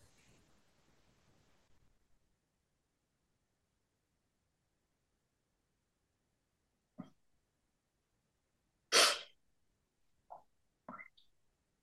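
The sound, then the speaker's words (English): A soft rustling hiss at the start, then quiet, followed by a few short, sharp dog barks spaced a second or two apart as the dog is let out, with no one talking. “God, I'm going to let the dog out.”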